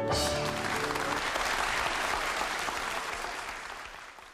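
Steady applause from a group, dense rapid clapping that holds at an even level for several seconds before gradually thinning and fading toward the end, with no voices standing out.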